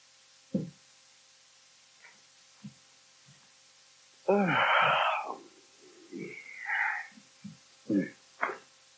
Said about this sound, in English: You yawned, that's all. Yeah, I did. It's about the third time in 5 minutes.